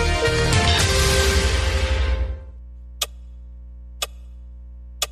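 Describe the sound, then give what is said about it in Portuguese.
A burst of music fades out, then a clock ticks three times, loud and crisp, at steady one-second intervals over a low background hum. “conta 10 segundos no relógio aí.”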